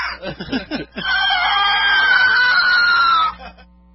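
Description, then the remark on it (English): A few quick breathy, laugh-like vocal bursts lead into a loud, sustained scream into a microphone, held for about two seconds with its pitch sliding slowly downward before cutting off. “Scream into the mic. Scream.”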